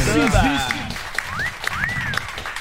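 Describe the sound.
A crowd applauds steadily, the clapping a dense, continuous wash, with a few shrill whistles rising above it and voices cheering in the mix.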